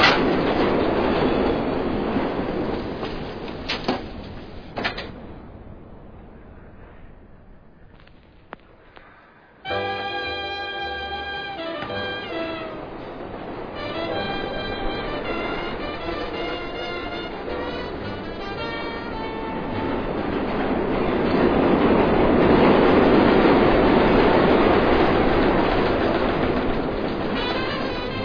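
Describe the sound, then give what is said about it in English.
A train rumbles past on the rails, wheels clattering and squealing with bright metallic tones, the roar swelling louder toward the end before easing off; no voices. “How often does the train go by? So often you won't even notice it.”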